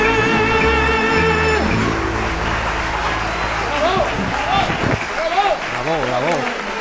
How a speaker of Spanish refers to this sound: así, se va bajando los aplausos de toda la gente emocionada en el estudio, de verdad.